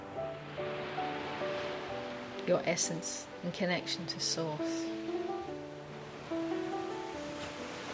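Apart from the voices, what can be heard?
ocean waves splashing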